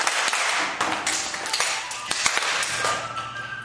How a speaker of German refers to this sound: So, alle stellen sich jetzt im Kreis auf. Es geht los mit den Übungen. Die Hände werden bewegt. Es wird in die Hände geklatscht und auf die Schenkel geklatscht.